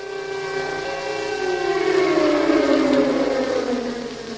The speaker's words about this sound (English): We are in Prague. It is just before midday on St. Valentine's Day, February the 14th, 1945, and we hear the familiar sound of an air raid siren, captured here in a Czech broadcast from the time.